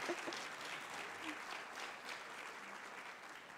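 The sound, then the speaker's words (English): Steady audience applause fills the space, a dense, continuous patter of many hands clapping at a fairly even level for several seconds, with no voices rising above it. “and so I'm just going to say that one more time so that we can greet that with applause.”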